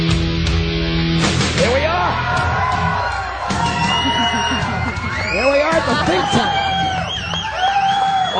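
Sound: crowd cheering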